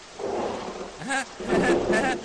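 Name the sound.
heavy rain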